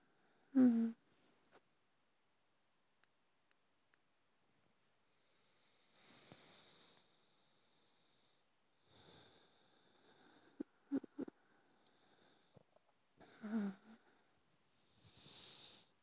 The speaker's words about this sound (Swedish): Du andas lite lugnare. Känns det lite bättre? Bra.